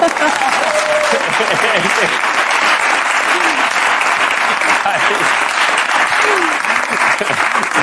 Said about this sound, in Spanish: El aplauso de una persona es el más doloroso de todo.